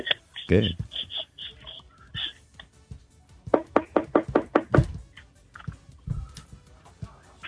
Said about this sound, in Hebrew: אנחנו דופקים פה בדלת.